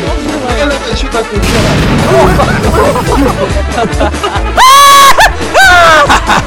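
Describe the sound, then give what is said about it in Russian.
Loud, rapid bursts of explosions crackle and pop in irregular succession over a dense roar, while people shout and scream near the end. “Она взрывается!”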